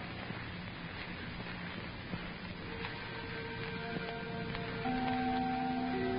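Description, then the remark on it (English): A small chime clock on the wall ticks steadily against a hissy background, and partway through, sustained ringing chime tones come in and linger until the end. No one speaks. “The little chime clock on the wall chattered, too.”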